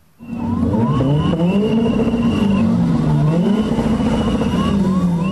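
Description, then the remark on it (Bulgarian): Several car engines rev loudly and repeatedly, their pitches rising and falling in overlapping waves, continuous, with a steady background roar of traffic, at a street protest against high fuel prices in front of parliament in Sofia, Bulgaria. “С лозунги, освирквания, шум от двигатели и клаксони започна протеста срещу високите цени на горивата в София.”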